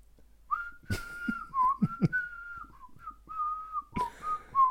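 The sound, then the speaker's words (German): Someone whistles a Christmas carol melody, a steady string of clear, mid-high sustained notes stepping up and down, with a few breathy clicks and puffs between phrases. No one speaks. “Ihr Kinderlein kommt mit, oder?”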